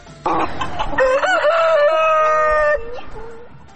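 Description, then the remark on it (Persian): A rooster in Estonia lets out one long, loud crow that holds steady before trailing off, preceded by a burst of hens clucking. “همچنان میشنوید که شیوع ویروس کرونا در استونیا بازار فروش و کرایه مرغ را پر رونق ساخته.”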